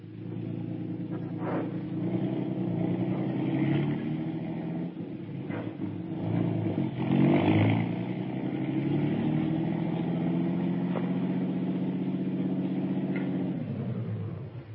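A car engine drones steadily throughout, a low, continuous rumble of a vehicle on the move, with occasional faint knocks and swells in intensity but no voices.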